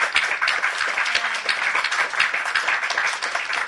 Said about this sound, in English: Well, on that very dramatic note, I will say, let's give a round of applause to our wonderful panel.